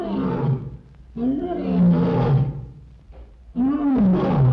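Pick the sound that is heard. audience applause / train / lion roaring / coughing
lion roaring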